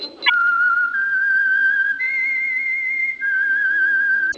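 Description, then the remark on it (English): A person whistles the signature melody of the Signal Oil radio program The Whistler: a loud, clear whistle holding long, steady notes, stepping up in pitch and then settling back down, with no talking and only a faint hum underneath. “That whistle.”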